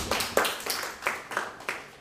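A short burst of applause from a class for a student's correct answer in a language lesson, a few people clapping in a loose, uneven rhythm with sharp, bright claps repeating several times over about two seconds, moderately loud, with no talking over it.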